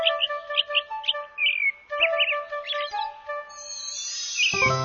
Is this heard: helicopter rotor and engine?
no